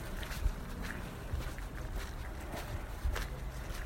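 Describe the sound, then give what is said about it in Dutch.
Soft, dull thuds of a person's footsteps on the ground at a steady walking pace, over a constant outdoor background of wind and ambient noise. “Het eigenlijk een beetje dreunen van het zetten van mijn stappen op de grond.”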